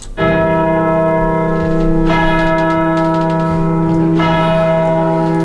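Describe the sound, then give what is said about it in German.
A large bell tolls loudly and slowly, three heavy strikes about two seconds apart, each ringing out with a long, resonant hum that overlaps the next stroke. “Die Glocke tönt die fürchterliche.”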